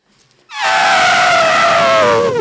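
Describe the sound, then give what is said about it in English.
A voice imitates an elephant's trumpet: one loud, brassy blare lasting about two seconds after a brief quiet moment, holding steady and then sliding slightly lower in pitch before cutting off. “spell the sound an elephant makes.”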